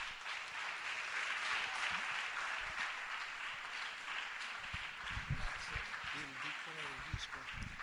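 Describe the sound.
An audience applauds steadily for several seconds, a dense, even wash of many hands clapping at constant loudness, with faint voices murmuring underneath.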